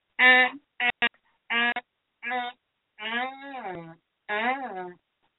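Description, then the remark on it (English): A voice imitates honking: about six loud, nasal bursts, the first ones short and clipped, the last two longer and wavering up and down in pitch like a bray, with brief pauses between. “You'll both be sitting there honking, and then everyone's going to start throwing.”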